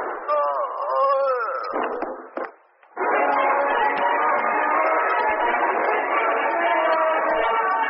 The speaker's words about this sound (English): Oh, I heard a shot in there. It's Chang. I saw a gloved hand stick a gun through the rear window, and I tried to warn her.